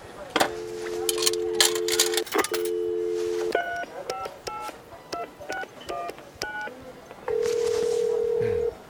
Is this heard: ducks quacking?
no